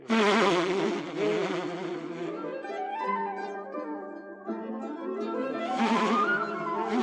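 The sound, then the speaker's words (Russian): A steady swarm of bees buzzing, the drone wavering up and down in pitch and swelling louder at the start and end, with no one speaking. “По-моему, пчелы что-то подозревают.”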